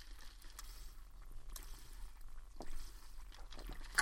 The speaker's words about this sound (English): Take a sip of water here.